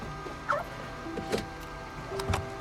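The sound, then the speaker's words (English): A brief electronic chirp as a workman unlocks a silver BMW 4x4 with a key fob outside a building site, followed by mechanical clicks and a soft thunk as the car door opens, over a low steady background hum. “He presses a button on the key fob and opens the car door.”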